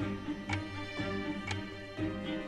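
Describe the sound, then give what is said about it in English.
A mechanical chess clock ticks at a steady pace, about two clicks per second, fairly faint against a constant low background hum, with no one speaking; it is Bobby Fischer's clock running in his game against Spassky in Reykjavik. “You saw Spassky make his move, then he touched his clock, which turns his clock off, but turns his opponent's clock on. So Fisher's time is now ticking.”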